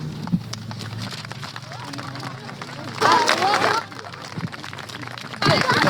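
An audience applauds children who have just sung a song, a steady wash of clapping with a couple of louder swells and some crowd murmur mixed in.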